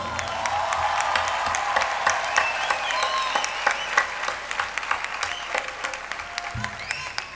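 A crowd applauds steadily for several seconds, a dense wash of many hands clapping at a fairly even loudness with sharp individual claps poking through.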